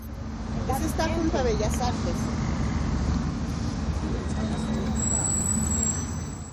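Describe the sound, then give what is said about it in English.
A bus engine rumbles steadily and rises in pitch as the bus starts moving along a city street full of people walking and biking, with muffled voices briefly audible early on beneath the constant low road noise. “The bus starts moving.”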